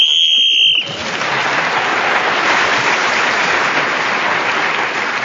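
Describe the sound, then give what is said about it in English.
A shrill, steady whistle, blown to end a round of a game, sounds for just under a second, then gives way to loud, sustained applause that carries on to the end. “Speaking as a whistle went, another point has moved forward.”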